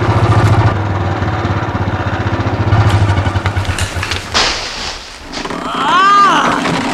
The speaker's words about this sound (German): wie das schwere Motorrad langsam durch die Zweige und das Laub hindurch in die Grube einsackte.